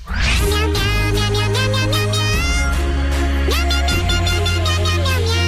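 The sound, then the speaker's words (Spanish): A loud, continuous musical track in which pitched cat meows carry a catchy football-chant melody over a steady bass line, with no talking. “Día de partido y por eso os preguntamos qué éxito futbolístico cantan estos gatos.”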